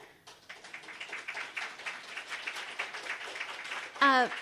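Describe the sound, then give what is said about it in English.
An audience breaks into applause, a dense, steady wash of clapping that lasts several seconds before a voice cuts in at the end. “A reminder to save your applause for the end of the program.”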